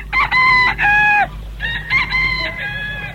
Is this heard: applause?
no